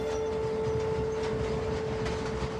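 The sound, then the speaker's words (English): A train rumbles steadily past at speed over a bridge, a continuous dense roar of wheels and carriages with a sustained tonal hum riding over it, loud, with no voices. “The train speeds on over a bridge.”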